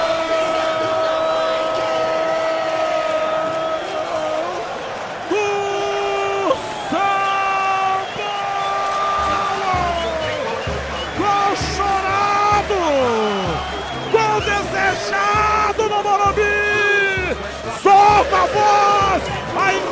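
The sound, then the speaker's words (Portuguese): A stadium crowd of São Paulo (Tricolor) fans roars and cheers continuously after André scores a goal in São Paulo's Copa Libertadores debut match against Cobresal, while loud, sustained shouting voices ring out over the noisy din. “Torcida do Tricolor, André, André, André, desafogo o torcedor São Paulino, numa quarta barrada, numa quarta estreia de Libertadores pro Tricolor.”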